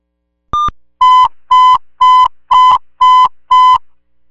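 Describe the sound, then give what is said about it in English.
Radio dispatch alert tones: one brief higher beep, then six identical buzzy mid-pitched tones pulsing in a steady, even rhythm, loud and with no voices. “Disregard tones.”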